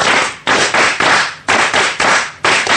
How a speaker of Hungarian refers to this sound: Mondjuk el egy párszor a nevét. Tóth Gyula. Tapsoljuk is a nevét.